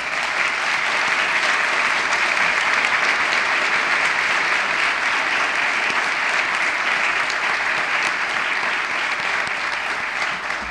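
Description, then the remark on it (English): A crowd applauds steadily for about ten seconds, a dense wash of many hands clapping at an even, fairly loud level with no speech over it, as volunteers in parish confirmation programs stand up. “You don't have to applaud them.”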